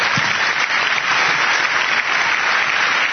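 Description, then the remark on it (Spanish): Steady audience applause for the members of the Innovas team standing up fills the whole stretch, a dense, even wash of many hands clapping at a constant loudness with no pauses or voices on top. “Hombre, que estamos ya cinco, o sea que aplaudirles.”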